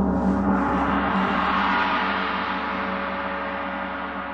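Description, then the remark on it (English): A large 60-inch gong from a musician's instrument collection, on stage, rings out in one long, shimmering wash, its low hum and bright overtones sustaining loudly and fading only slightly over several seconds, with no voices. “There's a 60-inch gong.”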